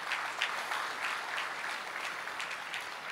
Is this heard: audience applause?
yes